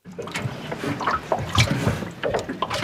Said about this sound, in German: Sanft schwappen die Wellen des Flüsschens Schwinge, einem Nebenfluss der Elbe, gegen ein kreisrundes Boot unterhalb der Altstadt von Stade.